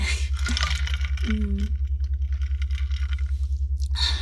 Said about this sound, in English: So just take a sip of water, and I'll have some too.